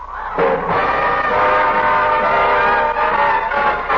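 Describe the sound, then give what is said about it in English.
A train whistle from engine number 49 on the Atchison, Topeka and Santa Fe line sounds down the line in one long, steady, multi-toned blast that rises in quickly and holds loud and sustained for several seconds, with no voices. “Do you hear that whistle down the line? I figure that it's engine number 49.”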